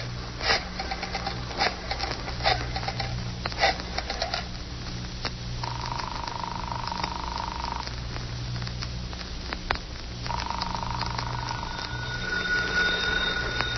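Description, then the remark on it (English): A phone in a hideout being dialed: a run of quick mechanical clicks like a rotary phone, followed by two long, steady ringing tones heard through an earpiece, all over a low background hum with no talking. “I told you to be sure there was a phone in my hideout, didn't I? Now that there is, I'm going to use it.”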